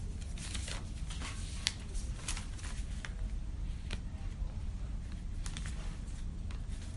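Rustling and shuffling of papers, with scattered crisp crinkles and soft flicks over a steady low background rumble, as someone leafs through sheets to find a crib sheet used for filling in a ketubah.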